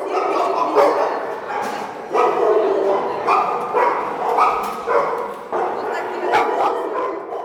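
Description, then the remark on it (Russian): Several dogs bark and yip continuously in a lively chorus, overlapping short bursts with occasional whimpers, fairly loud, with no one talking, at the kennel of a guide dog training school of the All-Russian Society of the Blind in Kupavna, Russia. “О, а вот и живые!”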